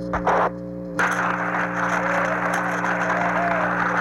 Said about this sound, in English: Odyssey Houston, we show you on the mains. It really looks great. An extremely loud applause here in Mission Control.